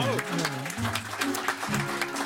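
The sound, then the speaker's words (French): An audience applauds steadily, a dense wash of clapping that stays loud throughout, with a voice or cheering briefly rising over it. “28 collaborateurs et 8 lignes de téléphone, on l'applaudit.”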